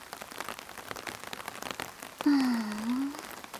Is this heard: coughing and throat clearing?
no